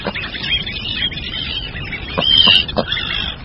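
A tern colony fills the air with a constant din of harsh, overlapping calls from many birds, with a few louder, nearer shrieks rising out of the chorus.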